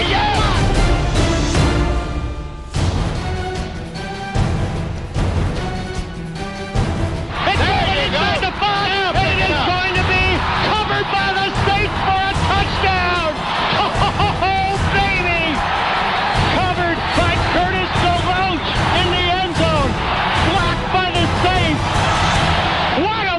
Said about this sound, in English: Listen to this crowd.